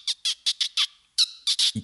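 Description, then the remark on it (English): A voice imitates a dolphin with a rapid series of high, squeaky chirps in uneven bursts, fairly loud, ending with a brief low thump. “No, I feel like you do a good dolphin.”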